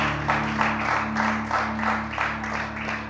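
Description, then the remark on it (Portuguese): An audience applauds steadily for a few seconds, a dense wash of many hands clapping that swells and eases in waves, with a faint low electrical hum running underneath. “Obrigado por bater as palmas, mesmo quando não tinha.”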